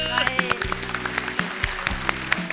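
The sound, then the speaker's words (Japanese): A large crowd of about 350 people seated all around applauds steadily, dense overlapping claps for a few seconds, with some voices and cheers mixed in underneath. “ハイボーズ拍手”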